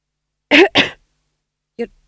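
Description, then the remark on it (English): A voice acts out a tax gatherer coughing: two quick, forceful bursts close together, then a softer, brief third one after a short pause, heard alone. “The tax gatherer coughed again.”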